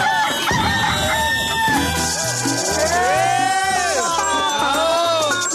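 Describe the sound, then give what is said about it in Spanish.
A rooster crows loudly over a bouncy musical backing with stepped bass notes, its drawn-out rising and falling calls filling the short clip, as the rooster of Radio Activa introducing its 2022 year-end special. “Lo peor y lo menos peor del 2022 con el gallo de Radio Activa.”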